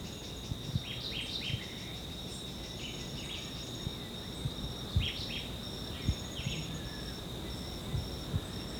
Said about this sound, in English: Yeah, this is still a white eye. Has a terminal low buzz.